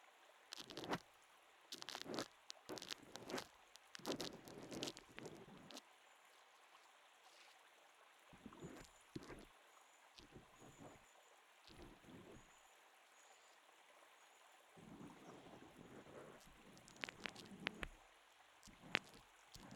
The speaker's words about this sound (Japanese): 綿棒で泡が潰れる音、普段は耳にしない音ですが、優しい音でどこか心地いいですよね。